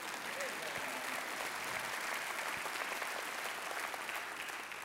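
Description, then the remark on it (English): An audience claps steadily for several seconds, a dense, even wash of many hands with a crisp, crackling texture and no break in the applause. “I'd love for you to clap at that.”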